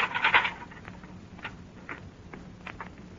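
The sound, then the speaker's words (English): A door to an anchor room is pulled open with a brief scraping rasp, followed by a scattering of faint knocks and clicks, fairly quiet and with no one speaking. “Pull open that door and get inside.”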